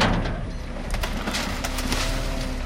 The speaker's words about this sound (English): A giant metal claw picks up one of several dozen rusty old Ladas from a parking lot at a car dealership in northern Moscow. Then it dumps it onto the back of a truck.